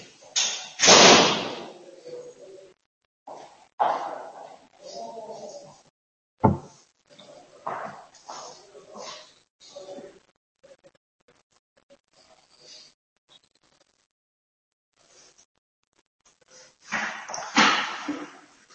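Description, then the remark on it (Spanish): A door is shut with a sharp thump, surrounded by scattered shuffling and handling noises, then a burst of louder rustling near the end; no one speaks. “Bueno, mirad, yo creo que ahora ya tenemos la medio seguridad de que no va a venir nadie, entonces voy a cerrar la puerta, y voy a quitar un poquito la mascarilla, y continuamos con el tema 2.”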